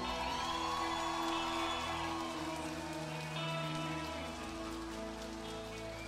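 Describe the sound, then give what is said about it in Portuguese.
An audience applauds for Porto do Sol in a dense, steady roar of clapping that holds for several seconds, with scattered cheers and sustained musical tones running underneath, then eases slightly toward the end. “Então eu queria que vocês todos dessem uma salva de palmas para Porto do Sol.”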